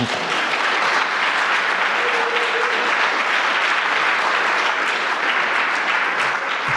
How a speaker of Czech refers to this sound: Bylo to super. Myslím, že môžeme i zatleskať.